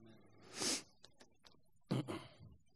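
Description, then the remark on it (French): A loud nasal sniff bursts out, followed by a few faint clicks and then a second shorter, rougher snort of air through the nose; no one speaks. “Il faut que je me mouche, sinon vous allez m'entendre renifler tout le long.”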